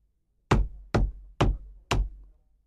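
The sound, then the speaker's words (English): Four evenly spaced knocks on a solid wall by a mirror in a dressing room, fairly loud, each a sharp thud with a short low decay, with no voices. “He walked straight to the mirror and began knocking on the wall.”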